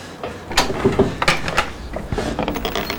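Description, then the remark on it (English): A door at the top of some steps opens with a series of wooden clunks and creaks, a few sharp knocks of the latch and hinges spread over a few seconds, no voices. “The door at the top.”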